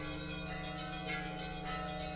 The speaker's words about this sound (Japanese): 知ってますか？この教会の鐘の音には特殊な低周波が含まれているんです。その周波はある特定の快楽神経にのみ働きかけて、その傾向がある人間を引き寄せる効果があるんです。